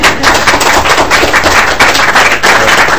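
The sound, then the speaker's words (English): A loud, steady burst of applause from a crowd of people, greeting news that the Gopher women's ice hockey team won its 7th national title. Dense crackling claps run without pause for a few seconds, with no voices standing out. “That got a round of applause.”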